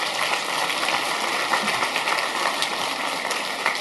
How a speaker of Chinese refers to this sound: 鼓掌。